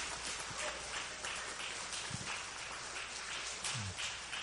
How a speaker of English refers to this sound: You're going to have a few more opportunities to applause.